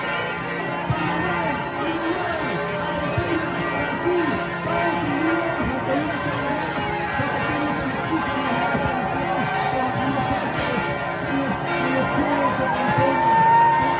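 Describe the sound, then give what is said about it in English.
A church bell in Washington, D.C. rings steadily and resonantly in support of protesters, its tones hanging over a large, noisy protest crowd whose shouts and chatter continue throughout, the crowd swelling slightly louder toward the end. “In D.C., we see a church bell ringing to support the protesters.”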